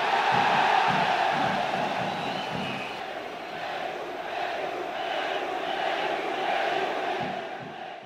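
A large crowd in Argentina during the Malvinas (Falklands) conflict shouts "Perú" in unison, a dense roar of many voices rising and falling in rhythmic chanting waves that stay loud and steady throughout.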